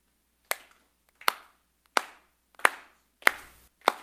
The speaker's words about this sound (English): Cool. What did we just do? That was rhythm. You guys matched the rhythm that we were clapping on.